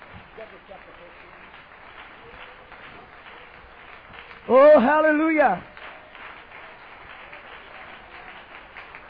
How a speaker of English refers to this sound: Praise the Lord. Would you give the Lord a hand clap of praise before you're seated?